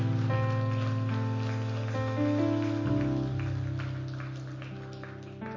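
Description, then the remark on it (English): An audience at a worship service claps their hands unto the Lord together in a dense, continuous patter, with sustained organ-like tones and steady music underneath throughout. “One more time, clap your hands unto the Lord.”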